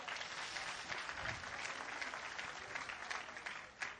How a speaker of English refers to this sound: What's your age difference? 23 years between your first. Give her a good clap offer, would you?